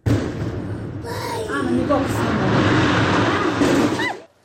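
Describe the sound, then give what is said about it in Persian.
A blast at a stone quarry near Takob village in Varzob district, Tajikistan, carried out by the company 39 Parallel, produces a loud, sustained roaring rumble that lasts about four seconds before cutting off, while people speak over the din. “این صدای ترکش در کانی همشفت دهه تکابی نویه ورزوب است.”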